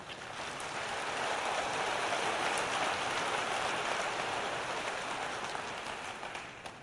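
An audience applauds in a dense, steady wash of clapping that swells within the first second, holds evenly for several seconds, then thins slightly at the end. No one speaks.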